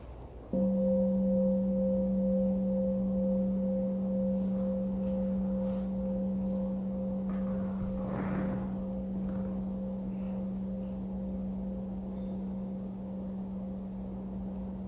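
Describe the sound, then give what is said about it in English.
A single bell is struck once during a meditation practice, leaving a deep, steady hum with a clear higher overtone that rings on for about fourteen seconds and slowly fades. No one speaks. “Let us listen to the bell.”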